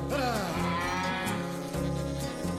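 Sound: ox mooing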